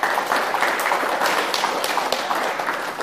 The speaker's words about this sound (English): You can give a round of applause for that.